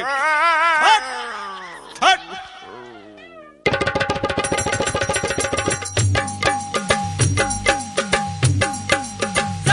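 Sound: dog barking and yipping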